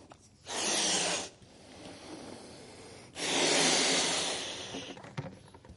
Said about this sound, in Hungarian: A gyerekjáték egy nagyon egyszerű gyerekjáték, ha megnézik, ez egy propeller, amelyhez hozzá lehet kapcsolni egy léggömböt. Ezt a léggömböt én most felfújom.